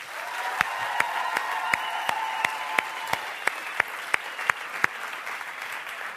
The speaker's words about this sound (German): Die letzte, fast eine ganze Woche haben die ganzen Mitarbeiter hier aufgebaut, die Zelte vorbereitet und das einzig und allein für euch, dass wir ein cooles Pro-Camp zusammen haben. Und ich finde es echt nochmal einen fetten Applaus wert.